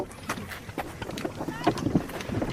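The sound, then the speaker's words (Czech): A person climbs into a small boat on the water, about to set off, with hollow knocks, shuffling bumps and creaks as they settle in, wind rushing over the microphone and faint voices. “Jana teď usedá do člunu, takže předpokládám, že za chviličku vyrazí na vodu”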